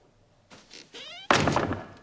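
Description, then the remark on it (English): A door swings shut: a brief creak of the hinges, then a loud, solid thunk as it closes, with a short rattling decay and no voices. “Wincing, Gordon closes the door.”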